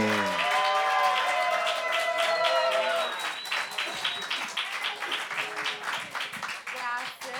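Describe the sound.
An audience breaks into steady applause, a dense, continuous patter of many hands clapping, loud throughout, with a voice speaking over the clapping during the first few seconds.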